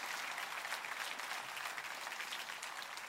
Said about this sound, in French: Applaudissez avec moi.